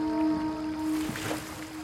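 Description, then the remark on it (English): A canoe paddle dips and swishes through river water as the canoe crosses the river, with a soft splashing stroke or two over gentle lapping and a steady low tonal hum underneath. “The two of you manage to escape the chaos and slip across the river in a canoe”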